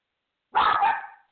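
A single dog bark rings out, loud and fairly high-pitched, lasting under a second with a short fading tail. No other sound surrounds it.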